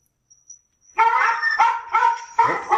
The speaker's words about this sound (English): The doggie's chiming in.